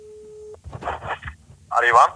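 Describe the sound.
A short, steady telephone ringing tone sounds once for about half a second, then cuts off as people begin talking over a phone line, as a call is placed to P3.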